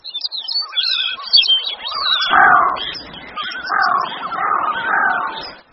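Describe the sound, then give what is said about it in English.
Several birds in the Arctic National Wildlife Refuge in June, recorded with four microphones set over a 500-yard area under 24-hour daylight, call over one another: quick high twittering chirps at first, then louder, throaty whistled calls rising and falling in repeated bursts, with no voices. “And any given time, you've got bird sound all around you.”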